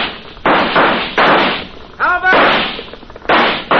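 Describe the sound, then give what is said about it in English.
Loud gunshots ring out one after another, four blasts at uneven intervals, each with a rough echoing tail, and a brief shouting voice breaks in between them, as a posse fires on a house where a gang is holed up. “Start shooting, Jonah. Make them think there's a lot of them.”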